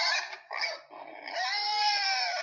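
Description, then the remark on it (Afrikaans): Flossie the pig, on a farm, grunts: two short squealy grunts followed by a longer, drawn-out whining call, loud and alone with no talking. “Ek is Flossie die vark en ek hou daarvan om in die modder te rol, sê sy.”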